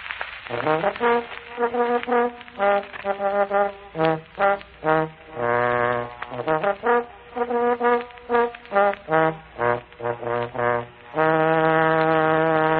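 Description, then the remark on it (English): A trombone plays a brassy call, the special call for the slow dogs at Wonderland: quick bursts of short staccato notes broken by a few held tones, finishing on a long sustained low note. No one talks over it. “Play the trombone. Go ahead. I like it better with sure, the trombone.”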